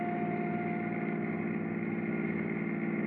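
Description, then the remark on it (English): The engine of a maroon Chrysler Roadster runs at a steady idle, a continuous low rumbling drone with an even hum that holds for the whole stretch, fairly loud, with no voices. “In one of these cars, a maroon Chrysler Roadster, are three conspirators, Angelo Franny, Tex Wallace, and Harry Moran.”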